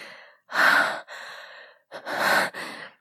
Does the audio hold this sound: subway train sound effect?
no